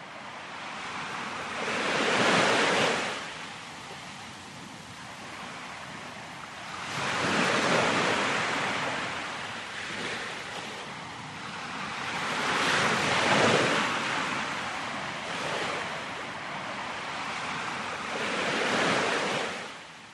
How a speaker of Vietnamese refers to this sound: Và như để đáp lại, những con sóng bủa vào tới tấp, xoáy tròn dưới chân vua.